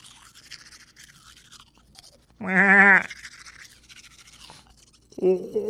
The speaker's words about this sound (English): Let's see now. I'm gonna brush its teeth now.